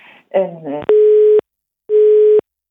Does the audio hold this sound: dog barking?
no